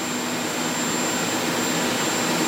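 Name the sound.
helicopter engine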